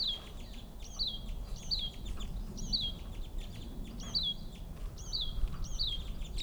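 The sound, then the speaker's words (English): A bird calls over and over, about eight short, high, descending chirps in a steady rhythm, set against a constant low rumbling background noise with no talking. “There's also one more bird I see here.”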